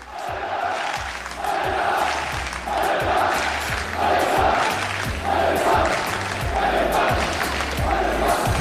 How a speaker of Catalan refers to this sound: Això és el Ciutat de València. L'afició del Mallorca que ja està començant a entrar a l'estadi del Ciutat de València, aquests 500 aficionats